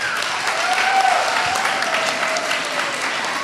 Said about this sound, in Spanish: Ella es responsable del Centro de Emprendimiento e Innovación del Sistema de Educación Media Superior y les pido un aplauso para ella, por favor.